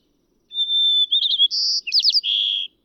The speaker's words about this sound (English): White crown sparrows are common throughout much of the West.